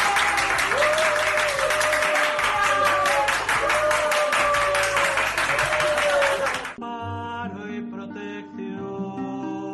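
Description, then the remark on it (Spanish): Steady, dense applause from many hands, given by healthcare workers to thank priests, fills the first seven seconds, with a sustained tonal line running over it, then stops abruptly and gives way to quieter harmonic tones. “Este aplauso es para vosotros.”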